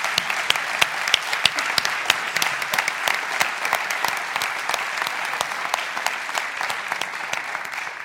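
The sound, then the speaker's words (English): A crowd claps steadily for several seconds in applause for the street pastors, a dense wash of many hands with sharp individual claps standing out, sustained at even loudness with no talking. “Give them a clap, guys. Give them a clap.”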